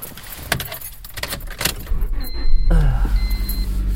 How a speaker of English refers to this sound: Okay, start up my engine, I'm going to work.